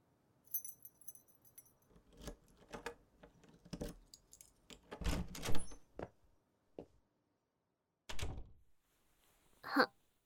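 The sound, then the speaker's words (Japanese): A spare key rattles and clicks in a lock, followed by the thunks and creak of a door being opened, a series of sharp knocks with a brief metallic jingle near the end. “それよりほら、さっさと入ってこいよ。合鍵持ってるだろ。”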